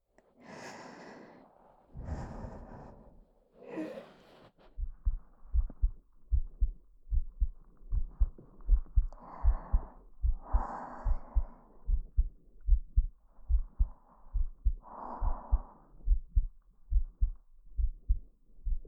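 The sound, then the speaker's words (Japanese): A steady human heartbeat, the speaker's own, thumps in low, regular, muffled pulses, with soft breathing and sighing sounds drifting over it near the start and middle. “たっくん、たっくん、私の心音生きてるよ。”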